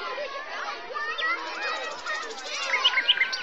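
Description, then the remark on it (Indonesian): A dense chorus of many birds chirping nonstop at a zoo, mixed with the murmur of a chattering crowd and children, with a few sharper, brighter chirps rising near the end. “Wow, banyak sekali burungnya.”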